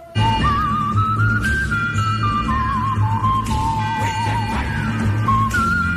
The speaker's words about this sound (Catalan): Aquí ja hi trobem la melodia xiulada, campanes i un cor fent onomatopeies tribals, uns recursos molt similars als que explora un any més tard, amb La mort tenia un preu.